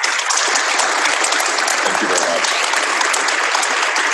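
A crowd bursts into steady, sustained applause, a dense wash of many hands clapping at an even, loud level throughout, with no voices standing out.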